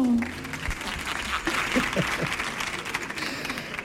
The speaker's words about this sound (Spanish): Y ya sin más preámbulos, pues les quiero presentar a la protagonista de la película, nada más y nada menos que Ariel, la auténtica sirena. ¡Fuerte el aplauso!